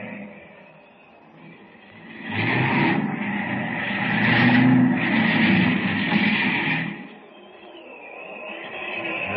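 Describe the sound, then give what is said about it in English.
A seaplane's engine drones steadily, then swells into a loud, rough roar for several seconds before dropping back to a lower hum as it comes down onto the water. “Look, the plane's gonna land.”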